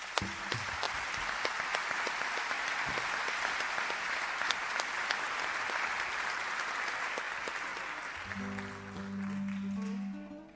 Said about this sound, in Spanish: El aplauso es para Walter Domínguez.